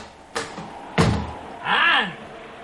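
door being opened

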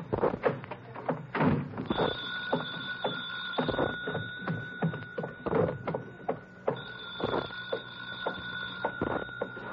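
telephone ringing

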